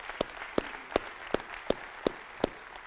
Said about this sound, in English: I tell you what, let's just open up with a word of praise for the Lord. A hand of applause. Amen.